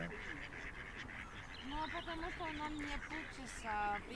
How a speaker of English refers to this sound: The ducks are mainly in the water to our left, but there's a couple to our right, just three of them.